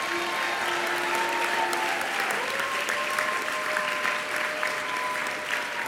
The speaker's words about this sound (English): You guys should applaud, because it's only because of the hard work of this organization that we are able to do this.